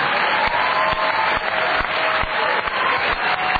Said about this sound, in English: give a big round of applause for Mark, our moderator